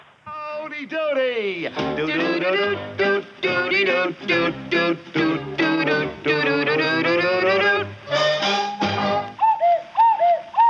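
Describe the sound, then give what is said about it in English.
Voices imitate cuckoo calls in a bouncy, rhythmic run of repeated sung hoots, loud, with a sliding whoop at the start and brief higher coos near the end. “Uh-oh, the cuckoo kids. That means it's time to go.”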